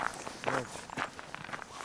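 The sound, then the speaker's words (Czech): Footsteps crunch over a gravel path along a stream at a steady walking pace, each step a short gritty scrape, with a brief faint tonal sound in the background. “No a my už se vydáváme dál cestou, takovou šotolinovou, podél potoka.”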